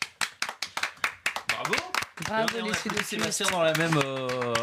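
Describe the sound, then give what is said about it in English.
A single person claps their hands in applause, about a dozen quick, even claps, before a voice begins talking and the clapping stops. “Du coup, je vous applaudis.”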